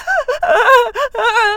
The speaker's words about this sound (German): Jetzt fängt sie auch noch zu weinen an.